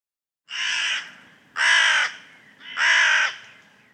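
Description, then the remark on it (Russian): Three harsh, croaking raven caws in a winter forest, in a steady rhythm, each lasting about half a second, loud, with no voices and only faint background noise between calls. “Верно, это же ворон.”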